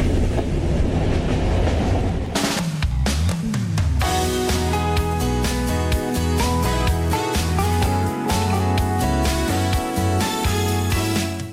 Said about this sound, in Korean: 잠시 안내 말씀드립니다. 지금 들어오는 13시 열차는 보급역으로 가는 열차입니다. 곧 열차 출발합니다.